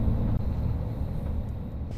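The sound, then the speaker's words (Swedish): A steady, deep engine rumble fills the interior of a moving bus driving around Karis on its way to Ekenäs, a constant low drone with faint road noise and no voices. “Man märker tydligt att det är faktiskt många skolelever som använder den här bussen.”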